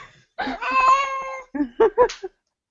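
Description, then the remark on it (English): A female cat, upset at being picked up, lets out one long, drawn-out complaining yowl, then three quick, clipped mews in a row, fairly loud, with no one talking. “She hates being picked up. But this is Molly, everybody. Hi, cat.”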